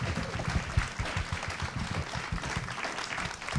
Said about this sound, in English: But let's be sure right now to give these amazing folks a round of applause and all our love. They brought it home. They was amazing.